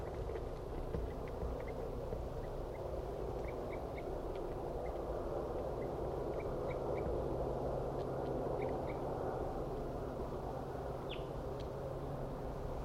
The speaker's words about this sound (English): Wild bird.